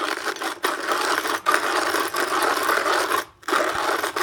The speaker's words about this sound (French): Le bruit du moulin à café manuel.